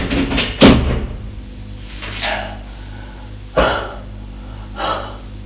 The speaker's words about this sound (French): La porte se referme.